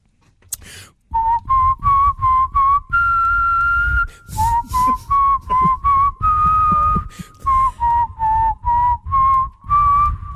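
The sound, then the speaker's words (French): Someone whistles a catchy, bouncy advertising jingle as a guess-the-ad blind test. Short staccato notes with a few held ones, whistled alone without any talking for about nine seconds. “Je vous siffle des publicités.”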